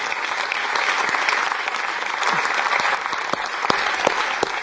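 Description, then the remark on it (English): A church audience applauding the welcome team steadily, dense overlapping claps forming a continuous wash of sound with a few sharper individual claps standing out, sustained throughout. “And I wonder if we could just put our hands together and just give a round of applause for the welcome team.”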